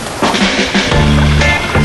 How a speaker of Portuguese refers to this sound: E neste mar de águas calmas da ilha, dá até para pedalar de bicicleta aquática. Que sensação gostosa! Que delícia!